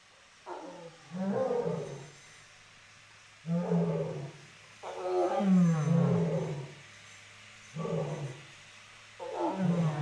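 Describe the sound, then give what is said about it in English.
Deep, rumbling lion roars come in a series of five heavy bursts with short pauses between, loud and resonant, as lions in an enclosure call back and forth, responding to tigers barking at each other in the distance, with no talking. “Yes, so we had a disagreement up front with a couple of tigers, and tigers disagree by barking at each other, and lions respond to sounds in the distance by responding with their own pride numbers.”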